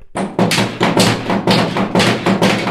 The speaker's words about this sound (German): Hui, was ist denn das für ein grausiger Lärm? Das sind die Ratschen. Am Karfreitag dürfen doch keine Kirchenglocken läuten. Deswegen haben wir die Ratschen. Das sind riesige Hammer, die von den Ministranten oben im Kirchturm gedreht werden.